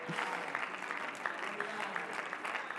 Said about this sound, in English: Come on, somebody clap your hands and just shout a little bit to the Lord.